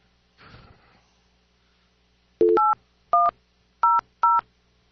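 Four telephone keypad tones beep out in a steady sequence during a Skype call, each a short, loud two-pitch burst, following a brief rustling scrape at the start; no one speaks.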